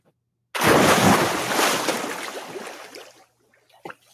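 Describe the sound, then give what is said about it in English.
A sudden, loud splash as someone plunges into water, followed by a few seconds of churning, fading spray and a brief small slosh at the end. No voices. “Cannonball. Someone jumping into water.”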